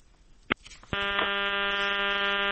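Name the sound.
phone line tone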